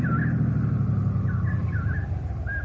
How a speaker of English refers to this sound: Oh, hey, I hear a car coming. Oh, great. Let's flag it down. Hey! Hey, over here! Oh, it's a state policeman. What luck.